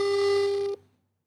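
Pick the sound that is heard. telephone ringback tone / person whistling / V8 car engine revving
telephone ringback tone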